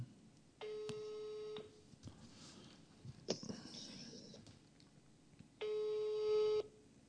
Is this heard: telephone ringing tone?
yes